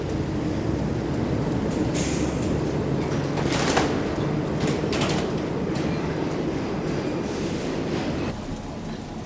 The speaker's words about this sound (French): Et le métro se met en route.